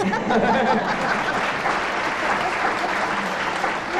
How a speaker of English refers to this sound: I think when you hear the answer to this, this is going to be worth a round of applause from the audience, because it is, in fact, a test of elementary training.